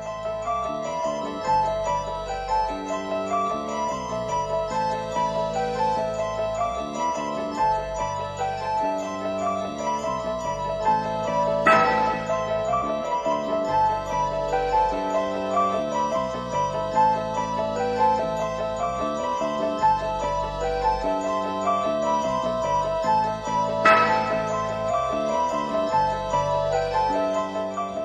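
Instrumental music featured in the horror film The Exorcist, built on a steady, repeating tinkling bell-like melody over a low pulsing line, with brighter chime strikes roughly every twelve seconds; no voices.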